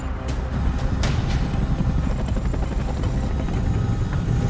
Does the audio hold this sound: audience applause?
no